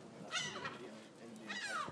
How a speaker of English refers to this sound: Do not shit on my head, bird. Seriously, just don't. I'm not in the mood. I wasn't intending to. Oh, sorry, the seagull.